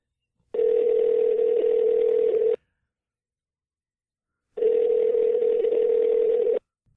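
Two long, steady telephone tones, each about two seconds, separated by a two-second pause, like a line ringing through a handset as a call is placed to a security guard. Loud, with no talking.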